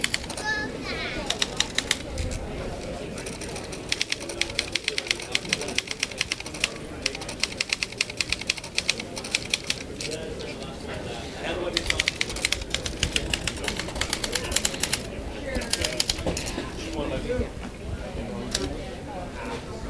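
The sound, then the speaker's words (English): Bursts of rapid typewriter keystrokes clack against paper, crisp, in quick irregular runs with short pauses between them, over a low murmur of background sound. “I love the sound of just the keys hitting the paper.”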